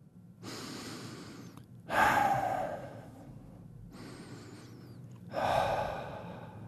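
Slow, heavy breathing, alternating long airy inhales and exhales, about four breaths in all, with two louder, rougher breaths standing out. No talking.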